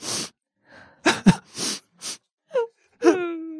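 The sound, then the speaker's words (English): A voice imitates quiet crying, the Japanese onomatopoeia 'shiku shiku': a series of short breathy sniffles and soft sobs, then two brief rising whimpers with a thin tonal wail at the end, without any spoken words. “Now, shiku shiku is the quiet crying sound usually made by a woman or children.”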